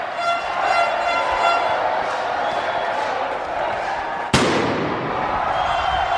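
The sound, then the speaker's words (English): A single sharp, loud firework bang, from fireworks someone was letting off, cracks out after several seconds of steady hissing, crackling background noise, then a brief rumbling tail fades back into the din. “Someone was letting off fireworks.”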